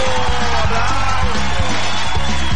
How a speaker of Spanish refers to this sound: aplauso.